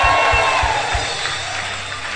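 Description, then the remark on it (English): A church audience claps and shouts praise to God in a loud, dense wash of crowd noise during a sermon, with a few steady, evenly spaced thumps in the first second before settling into a continuous roar. “Oh, somebody clap those hands, give God a shout of praise.”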